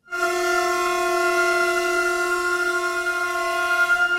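About half a dozen heavy SBB Cargo freight locomotives standing on the tracks of Bellinzona station, Switzerland, blare their horns together in a horn concert during a railway workers' strike: one long, unbroken chord, loud and steady for the whole stretch, with a slight wavering swell toward the end. No voices.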